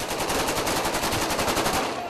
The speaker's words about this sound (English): The first sounds of celebration on Thursday were heard on the streets of Sirte. They came from rebel fighters shouting and shooting guns in triumph that Gaddafi had been captured.